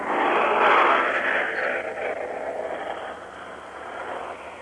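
A B-29 bomber's engines roar as it takes off from a large airfield, one of dozens leaving for a bomber strike against Japan: a broad, rushing drone that swells early, then slowly fades while holding steady, heard in the distance with no voices over it.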